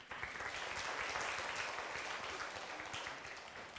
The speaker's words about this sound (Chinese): 我们今天的人文讲座，在我的印象里面是出席率比较人比较多的一次啊，阿弥陀佛啊，自己鼓掌啊。